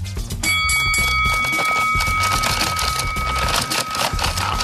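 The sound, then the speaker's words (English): A boxing bell strikes once to start a game of Rock'em Sock'em Robots played with Oscar De La Hoya, and rings on in a bright, sustained metallic tone for several seconds, over a loud, busy wash of clattering noise and low thumps. “Do you have a bell that could be played? Yep, I got a bell.”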